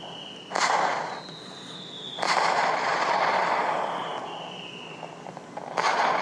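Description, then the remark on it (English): Fireworks sound effects from an iPad app: a whistling streak followed by booming, crackling bursts, about three in all, loud, with a sustained fizzing crackle between them and no voices. “Anyway, it's only for iPads, and I can see lights and colors, and it looks like you can really see the fireworks on it, but the part that I like is you open the app, and you turn off VoiceOver, and then you do this.”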